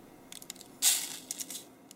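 Coffee grounds being collected and poured into a filter while making coffee: a soft, brief rush of granular hiss with scattered light scrapes and ticks around it, fairly quiet, with no talking.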